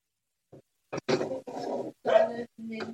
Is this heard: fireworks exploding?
no